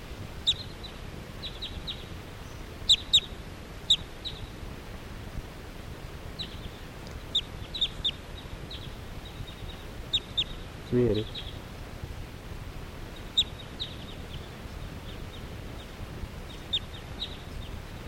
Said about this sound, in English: The flock is flying away. This is 380. And now the birds are just generally flying in the air around here.